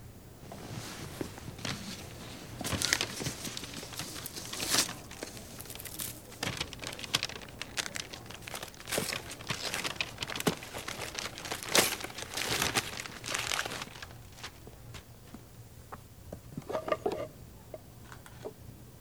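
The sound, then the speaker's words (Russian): Crinkling and tearing of gift wrapping paper as a gift holding a pen and ink is opened, a steady run of sharp rustling bursts for nearly twenty seconds, with no one speaking. “Это тебе. Мне? Что это? Открывай.”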